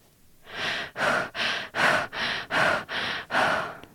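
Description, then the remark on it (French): Quick, forceful breaths in a steady rhythm during a guided rapid-breathing exercise, about seven or eight in and out in a few seconds, loud with a rushing, airy texture and no talking. “Respirez. Vite. La respiration rapide vous permettra de rompre avec la barrière qui retient vos émotions négatives.”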